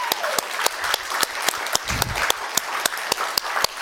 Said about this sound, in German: Also auch nochmal richtig großen Applaus dafür.